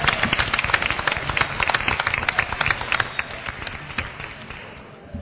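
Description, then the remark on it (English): An audience applauds steadily, many hands clapping in a dense, even patter that holds for several seconds and begins to thin out and fade toward the end. “So I would like to ask you to just give them a clap, because I think they did a talent job.”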